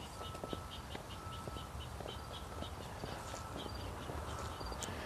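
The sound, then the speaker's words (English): Short, high-pitched prairie dog chirps repeat irregularly, thin and fairly faint, from a prairie dog village in a small field, over steady outdoor rumble and the crunch of footsteps of someone walking beside the field. “I think it's a prairie dog chirping.”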